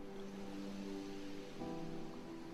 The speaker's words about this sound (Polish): Ty oddychasz, a morze faluje. I to jest tak bardzo kojące.